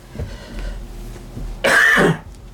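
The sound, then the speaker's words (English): A single loud, harsh cough from a person fighting a cold bursts out after a stretch of quiet room noise, lasting under half a second with a raspy, throaty edge. “Like I said the other day, I've been fighting a cold. Mm-hmm. I've not coughed all day.”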